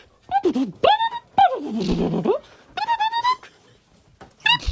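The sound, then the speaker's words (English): Dogs howl and whine along to their song in a string of loud bursts, their pitch sliding up and down in a sing-song way, with brief gaps between each yowl. “They've insisted that I send this message in with the version of our song, which is more of an audio soundbite, and it goes like this.”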